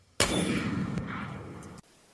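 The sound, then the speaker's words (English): A single loud long-range rifle shot, fired at a target 4.4 miles away in a record-breaking shot, cracks sharply, then rolls into a long, booming echo that lingers for over a second before cutting off. No voices. “Shattered the record 4.4 miles. Here's the shot.”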